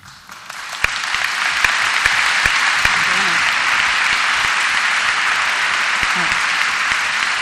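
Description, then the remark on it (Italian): A crowd applauds steadily for several seconds, a dense wash of clapping that swells quickly and holds at full strength, with a few faint voices calling out beneath it. “Sì, scusate, eliminiamo anche gli applausi, così facciamo.”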